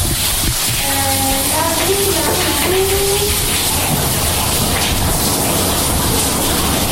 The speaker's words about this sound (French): L'eau qui coule, c'est l'eau du ruisseau qui coule sur la roue. La roue en bois, elle fait 3-4 mètres de diamètre facile.